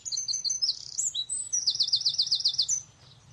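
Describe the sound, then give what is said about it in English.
Birds tweeting in a bright, busy stream of high chirps, including a quick run of repeated notes, over a low hum of background noise with no one speaking. “Do you hear the birdies tweeting?”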